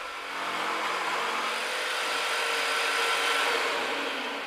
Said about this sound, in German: Ja, wir tun die Leisten mit einem Parallelanreißer, also einem Stift, anreißen. Und dann sägen wir die mit der Stichsäge zu.